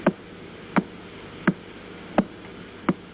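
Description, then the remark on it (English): Sharp, evenly spaced clicks of a rotating pulsar's pulses tick steadily like a clock, five pulses about 0.7 seconds apart over a faint hiss of static. No one speaks. “Think of each rotation's pulse like a tick.”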